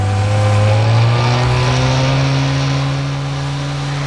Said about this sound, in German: fuhren mit dem Wagen aus der Stadt, stiegen dann in ein Motorboot um und rasten aufs Meer hinaus.